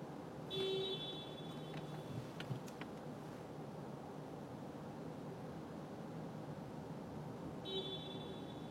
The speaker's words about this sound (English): Honking really helps.